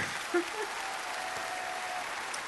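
A brief, soft round of applause: a steady, dense patter of clapping hands that holds at an even level for a couple of seconds.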